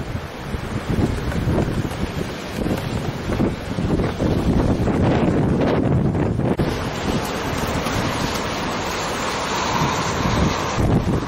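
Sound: strong wind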